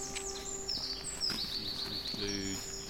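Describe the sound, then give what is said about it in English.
Several birds call and sing at once outdoors in a park, including crow, jay, magpie, blackbird, song thrush, robin, dunnock, blue tit, great tit and long-tailed tit, a steady mix of high whistles, chirps and trills overlapping throughout, with a faint low hum or murmur underneath. “Carrying crow, jay, magpie, blackbird, song thrush, robin, dunnock, blue tit, great tit, long tail tit.”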